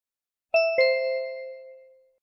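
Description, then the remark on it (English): A timer's bright two-note chime rings out clearly on its own to signal that time is up, the second tone following quickly after the first, both lingering and fading away over about a second and a half. “Ding! Time's up.”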